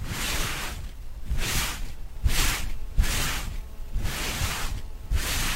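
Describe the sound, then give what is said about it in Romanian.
Foley footsteps, made with paper, imitating a person walking through one-day-old fresh snow: about seven steady steps in an even walking rhythm, each a soft, grainy crunch, with no voices. “Aceștia sunt pașii unui om care merge prin zăpada de o zi.”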